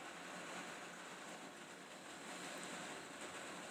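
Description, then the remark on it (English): Heavy rain pours steadily onto a little porch roof over a back door in New York, a dense, unbroken hiss with a fine pattering texture that stays at an even loudness throughout, with no voices. “It sounds worse because there's a little porch over the back door.”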